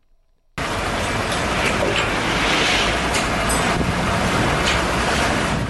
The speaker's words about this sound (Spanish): Estos sonidos son de camiones de ayuda que entran a Gaza después de un bloqueo de 11 semanas. El portavoz de la ONU, Stefan Dujarric, dijo que las entregas son limitadas después de que Israel acordó un levantamiento parcial de su prohibición.